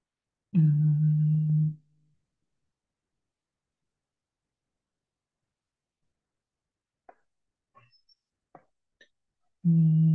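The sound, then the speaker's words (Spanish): A low, steady humming "mmm" of the consonant M made between the lips, sustained for about a second and likened to a cow's moo, followed by near silence with a few faint clicks before another hum begins. “El sonido entre nuestros labios, como el mugido de la vaca.”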